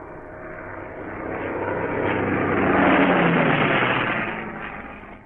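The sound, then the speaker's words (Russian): A steady, quiet, howling, droning hum of aircraft engines passing overhead, from planes marked with a swastika, swelling gradually to a peak midway and then slowly fading, with no voices present. “Ухо его пытается уловить малейшие оттенки тихого, воющего гудения моторов.”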